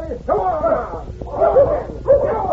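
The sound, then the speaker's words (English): Several dogs bark and yip in three overlapping bursts, fairly loud, with excited whining tones running between the yelps. “I declare them dogs is more good than you men.”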